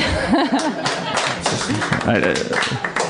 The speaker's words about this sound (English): And hold for applause.